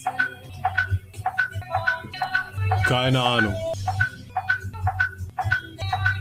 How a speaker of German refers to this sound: Piepst jetzt halt. Warum auch immer. Ich habe keine Ahnung, was jetzt los ist.